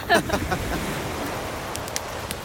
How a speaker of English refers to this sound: The sand is cool against our feet. The sea is crashing. It's sunset now on a secluded beach.